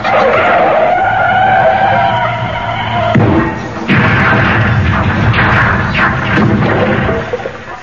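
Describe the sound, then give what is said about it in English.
A car skids to a stop: a loud, sustained tire screech with a wavering pitch, followed by heavy low rumbling and bursts of engine noise, with no voices. “Yes, well, I thought we'd get out the car first.”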